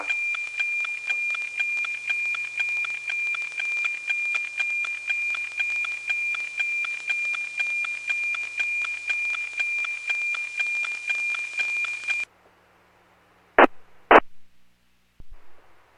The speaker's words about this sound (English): That's what the sound of NOAA 19 sounds like. They sound like a tick-tock clock.